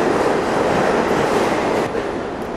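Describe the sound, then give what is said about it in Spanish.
A metro train roars steadily along an underground platform, recorded from beneath a mobile phone antenna on the platform: a dense, loud rumbling wash of noise that eases slightly near the end. No one speaks. “De hecho, ahora mismo estoy aquí debajo de una de estas antenas de telefonía móvil que hay en el andén.”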